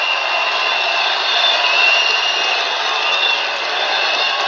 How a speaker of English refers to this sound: Huge crowd.